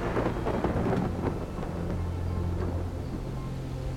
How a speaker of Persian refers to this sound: و بر آن فرشته چون ابرها را براند بانگ تندرها به گوش رسد و چون ابرها به تازیانه او به راه افتند آذرخش‌ها بدرخشند.